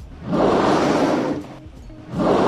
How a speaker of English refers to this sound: And its breath is captured from a whale's blowhole.